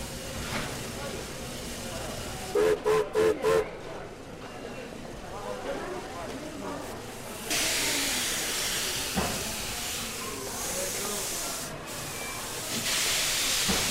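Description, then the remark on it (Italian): A train pulls in at a small village railway station, with three quick clanging tones of the station bell early on, then loud, steady hissing of steam that swells and holds, with rumbling and clanks beneath. “Sta arrivando un treno.”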